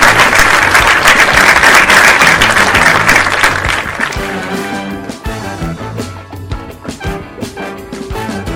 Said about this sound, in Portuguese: Para toda essa galera, o nosso muito obrigada e vamos fazer aquele lindo, lindo, lindo aplauso coletivo.